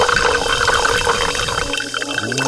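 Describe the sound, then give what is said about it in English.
Club soda pours steadily into a glass held over a microphone, a bright fizzing, splashing rush with rising gurgles that shift toward a higher, filling tone near the end. No one speaks. “There goes that club soda into that glass, over that microphone.”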